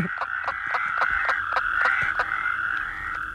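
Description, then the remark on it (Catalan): A western spadefoot toad calling in a steady run of short, clucking notes, about eight pulses in quick succession over a continuous background trill, moderately loud, with no talking. “I aquí aquest últim cloc-cloc-cloc havia de ser la tercera, no? El gripau d'esperons era aquesta.”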